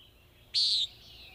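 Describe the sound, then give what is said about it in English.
A single loud, buzzy, nasal peep from a common nighthawk, lasting about a third of a second, high-pitched and harsh, standing alone over a quiet background with no talking. “You should listen at dawn or dusk for their distinctive peep.”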